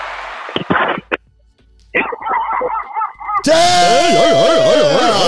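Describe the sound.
A man, a bounty hunter, imitates a dog with a few short, gruff barks, followed by more voiced yelps and then a loud, wavering howl-like wail that carries to the end.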